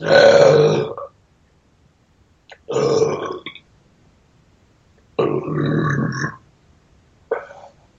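A series of four loud, drawn-out burps by a man with gravelly, rumbling tones, likened to the roar of the MGM lion, separated by short silences; the last one is brief. No talking.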